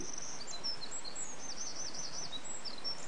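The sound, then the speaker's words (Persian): Larks and turtle doves singing in spring in the town of Kharf: a steady run of high, thin chirps and warbling trills, repeating without pause over a soft outdoor hiss, fairly faint, with no voices. “چکاوک ها و قمریان نغمه ها و سرود های فرح بخش و تازه سر می دهند.”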